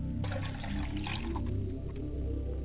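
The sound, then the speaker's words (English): Water pours steadily into a glass as a libation for the mother's side of the family, a continuous gurgling stream with a faintly rising tone as the vessel fills, with no voices. “And I pour libations to the ground and say, Ashe, I pour water for my mother's side of the family and set a glass before her side of the family.”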